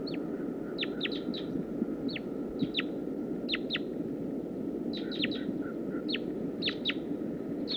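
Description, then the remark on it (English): A wild female bird calls repeatedly in short, high, downward-sweeping notes, often in quick pairs or triplets, about 10 yards away, over a steady wash of low outdoor noise and rustle. “That's the female. I'm at about 10 yards. Stop. Start recording wild bird. Wild female.”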